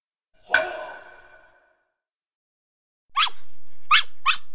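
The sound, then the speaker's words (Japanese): A small new puppy, a rescued stray weighing about 800 grams, gives three quick, high-pitched yaps at a house, following a single sharp, ringing knock that fades out earlier. No one speaks. “to see her new puppy.”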